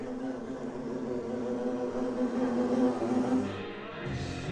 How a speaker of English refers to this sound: A nice bee flying around here. Let's listen to this.